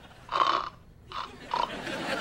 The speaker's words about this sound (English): How long has she been sleeping? 2.5 hours. Are we sure she's still alive? Can't you hear her snoring?